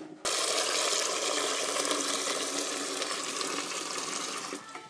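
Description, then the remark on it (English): A tap runs steadily, filling a big pan with salty water for cooking pasta, a loud, continuous rush of water that starts abruptly and keeps pouring for several seconds, tapering slightly toward the end. “I'm going to put some salty water on while you're winding this through.”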